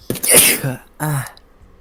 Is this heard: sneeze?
yes